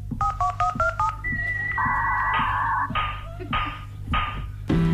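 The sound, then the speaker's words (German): A telephone rings with bright electronic tones: a rapid run of short beeps, then a string of longer, steady pitched notes, clear with no one talking. “Oh, es klingelt just das Telefon.”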